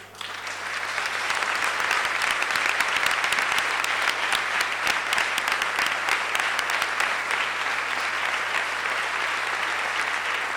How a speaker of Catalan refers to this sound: Es reprodueixen i es multipliquen els aplaudiments.